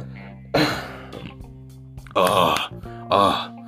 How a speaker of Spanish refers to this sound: Ay, ese muchacho se escucha muy naco al eructar mientras está transmitiendo.